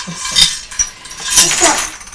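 Pound coins clink and jingle as they're handled and three are counted out to pay, several bright metallic taps and rattles scattered across a couple of seconds with no talking.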